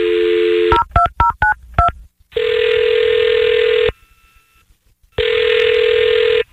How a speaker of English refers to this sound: Okay, I'll dial his phone number right now, okay? Here we go.